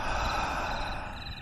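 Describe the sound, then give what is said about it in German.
A long, deliberate exhale, a steady airy rush of breath held for a second or so, fairly loud with no talking. “Wir atmen nochmal ein.”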